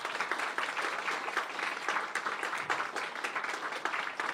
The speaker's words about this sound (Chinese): 拍手把荣耀归给主吧。